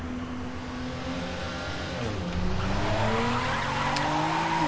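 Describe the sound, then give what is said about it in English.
Track racing cars in a video game roar continuously, engine pitch sweeping down and climbing again as they speed past, with screeching tires cutting through the loud, steady motor noise. No voices. “Men även racing. Track racing.”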